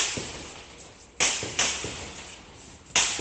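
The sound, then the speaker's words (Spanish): Three sharp gunshot cracks from bursts of gunfire in clashes between security forces and criminal gangs in western Caracas, Venezuela, ring out at irregular intervals, each with a short echoing decay, over a low background rumble with a few fainter pops between them. No one speaks. “Así suenan parte de las ráfagas de balas producto de los enfrentamientos entre fuerzas de seguridad y bandas criminales que desde hace meses generan incertidumbre en varias comunidades del oeste de la capital venezolana.”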